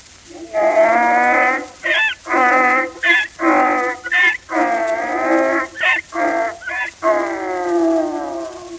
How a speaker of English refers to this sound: And the donkey who brayed.